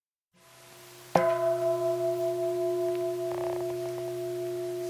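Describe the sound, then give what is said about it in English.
A single bell is struck once and rings out clearly, its pure, steady tones sustaining and slowly fading over several seconds with no one speaking. “That was a bell for those of you who are mastering not paying attention.”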